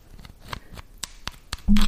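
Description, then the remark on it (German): Dry rustling and scraping of a pen rubbed over a surface, in short irregular strokes that end in a louder, fuller scrape. No one talks. “Du kannst damit so ein bisschen drauf rumrascheln oder sowas.”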